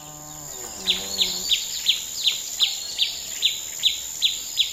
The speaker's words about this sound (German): Ein Vogelkonzert. Und so am Samstagmorgen habe ich natürlich gedacht, ah, ich bin nicht die Einzige, die schon wach ist, und es ist ein Konzert für mich ganz allein.